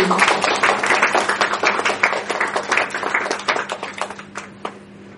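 Steady applause from a crowd, many overlapping claps forming a dense, crackling wash that holds fairly loud for about five seconds before gradually thinning and fading out.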